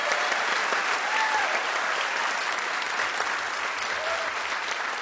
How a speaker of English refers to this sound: Yeah, and then people clap for me. Right. You know what I mean? Right. Like, they don't clap for them. Yeah. They clap for me.